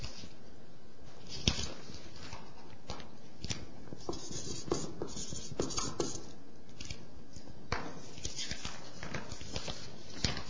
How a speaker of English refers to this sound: It's a contract. Blank piece of paper. You sign your name at the bottom and you let God fill in the rest at his will.